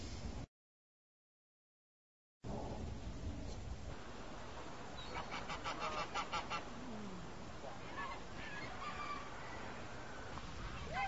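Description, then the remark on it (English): Geese honk repeatedly in a lively flurry of harsh, nasal calls, fairly loud, over steady outdoor background noise after a brief silent gap at the start. “The geese are funny, too. Look at that one. It's a very strange-looking goose.”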